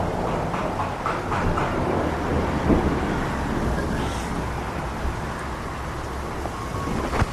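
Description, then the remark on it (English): A steady, dense hiss of rain pours down outdoors without pause, a broad wash of pattering with a low rumble beneath it and no voices. “It's raining! Let us step outside.”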